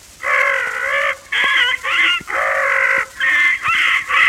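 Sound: parrot squawking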